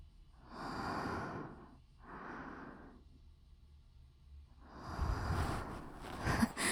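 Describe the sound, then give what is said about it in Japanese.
Heavy, winded breathing with no talking: two loud breaths, a brief pause, then a longer, rougher gasp, like someone out of breath. “なんでこんな、息切れてんだろ、私。”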